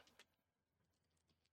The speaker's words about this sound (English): All them dice sounds. Oh, that looks like it wasn't good. 19. Oh, it was good.